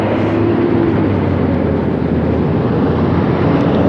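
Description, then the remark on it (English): A garbage truck rumbles loudly outside, its deep engine drone and steady mechanical hum filling the whole moment without letting up. No one speaks. “Garbage truck.”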